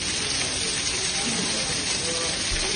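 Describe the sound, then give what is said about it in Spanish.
Heavy rain pours down in a dense, unbroken hiss in Augusta during the Masters golf tournament, recorded on video by golfer Paul Casey, loud and holding steady without any pause or change for the whole few seconds. “Jarrea agua en el Máster de Augusta.”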